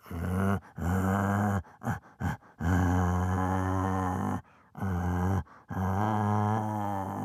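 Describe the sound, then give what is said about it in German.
A man's voice imitates a bear, giving a series of deep, drawn-out growls with brief pauses between them, loud. “Oder ein Bär.”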